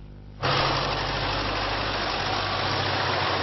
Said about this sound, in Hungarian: Indul a lajtos kocsi, naponta kétszer fordul meg Szellőháton. A lakók palackba, kannába merik belőle a vizet.